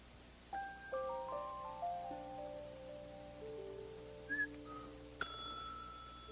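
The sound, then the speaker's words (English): A cash register rings up: a run of ringing metallic chimes at different pitches, each lingering, then a brief chirp and a bright, sharp bell ding near the end. No one speaks. “Oh, the sound of the cash register.”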